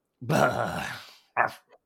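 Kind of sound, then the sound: animal, puppy barking and growling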